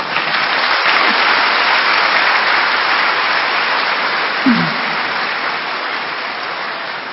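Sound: applause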